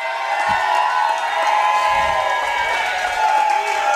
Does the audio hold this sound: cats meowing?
no